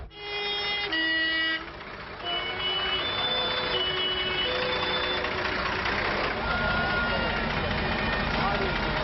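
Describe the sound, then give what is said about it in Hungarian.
A Steyr 680 fire truck, carrying 4000 liters of water and fitted with a Rosenbauer pump, still in active service in Kaposvár, runs its engine steadily with a loud, continuous rumble, joined early on by a few short tonal horn-like notes while voices talk faintly in the background. “Mögöttem lévő autó és Steyr 680-as, ő 4000 liter vízzel 400 szabban van szerelve egy Rosenbauer szivattyúval.”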